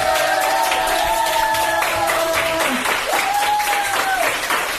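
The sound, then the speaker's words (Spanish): Sustained applause from ICU staff at the hospital in Manacor, marking that the ICU has been emptied of COVID patients: dense steady clapping with cheering and whistle-like tones rising above it throughout. “Pues sonidos interesantes, por ejemplo, el aplauso del personal del hospital de Manacor de la UCI porque ya se ha vaciado de enfermos de COVID.”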